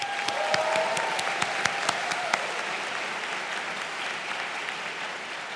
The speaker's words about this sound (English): The 2022 Andrews Thesis Prize goes to Rewa Pansalka, who unfortunately isn't attending today, but let's give her a clap.